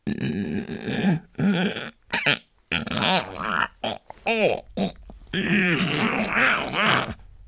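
A voice imitates a scraping, dragging sound with a series of strained, groaning bursts, rising and falling in pitch, broken by short pauses over several seconds.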